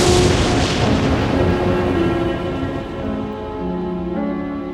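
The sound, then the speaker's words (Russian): A loud thunderclap following a flash of lightning bursts at once and rolls into a long, fading rumble, with steady low tones sustained underneath; no one speaks. “Вспышка молнии.”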